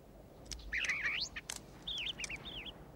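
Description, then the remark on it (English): Four small birds feeding at a stone bird table chirp and twitter, a quick run of bright, warbling calls followed by a second burst of shorter rising and falling chirps, over a quiet outdoor background. “A lizard climbs up onto the pedestal of a stone bird table. Four small birds are feeding.”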